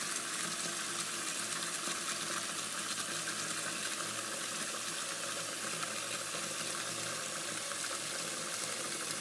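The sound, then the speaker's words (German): Water pours from a bottle in a steady, continuous stream for several seconds, a bright hissing splash with no break in rhythm, fairly loud, with no one speaking. “Wasser aus der Flasche.”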